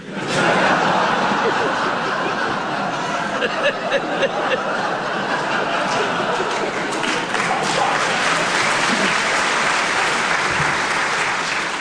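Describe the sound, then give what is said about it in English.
A crowd applauds steadily for about twelve seconds, a dense, even wash of clapping that holds its loudness throughout, with a few faint chuckles mixed in. “You know, it's a funny thing, but even after all these years, the sound of Colin's playing still makes me want to clap.”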